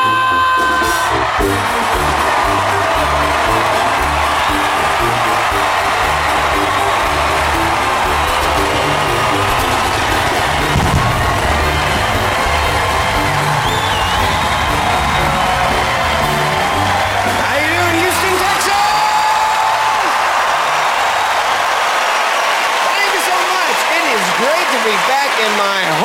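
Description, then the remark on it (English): A large audience at a 250th Red, White, and Blue birthday special cheers and applauds steadily for the whole stretch, a dense wash of clapping with whoops and shouts rising out of it, loud and sustained before thinning slightly near the end. “And one more cheer.”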